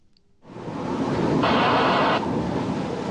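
Strong wind howls on a mountain during a climb in the documentary Farther Than the Eye Can See, in windy, snowy weather. After a brief quiet moment it rushes in, a loud, steady roar that swells brighter and harsher for a second before settling back to a constant blast, with no voices.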